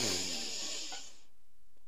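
A long, deep breath drawn in as the final breath of a guided relaxation exercise, a soft airy hiss lasting just over a second before it stops and leaves near silence.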